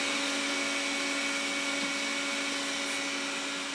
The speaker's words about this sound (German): ich muss den Staubsauger ausmachen.